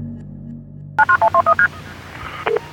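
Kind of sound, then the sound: signal or alarm, telephone keypad dialing tones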